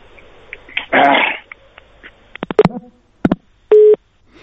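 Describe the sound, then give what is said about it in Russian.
A failed phone call: a burst of line noise and several sharp clicks, then a single steady busy-signal beep near the end, loud and clear, with no one speaking. “Ну что ж, вот такая неожиданность, оба звонка у нас сорвались.”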